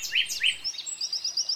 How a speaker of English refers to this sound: Ah, the dawn chorus. Delightful and familiar to all you early birds, and a novelty to all us night owls. From the nightingale